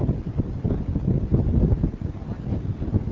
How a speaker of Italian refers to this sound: C'è un vento molto forte.